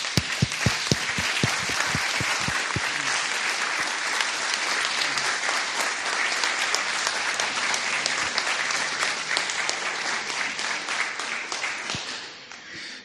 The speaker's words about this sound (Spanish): Vamos a ir esta parte cerrándola con un fuerte aplauso